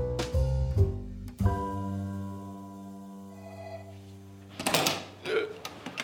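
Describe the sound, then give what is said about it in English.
A noisy door creaks open with a long, drawn-out groaning tone after a few knocking clunks, followed by louder rustling bumps as it finishes moving; fairly loud. “Oh, noisy door.”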